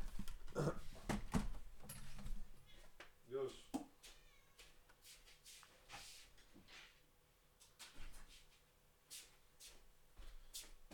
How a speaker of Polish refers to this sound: A propos grubych kotów, które chcą jeść, poczekaj, muszę wypuścić tutaj jednego. Przez chwilę, poczekaj.